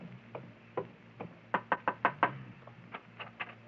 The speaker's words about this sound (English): Here's the house. You wait here while I go knock.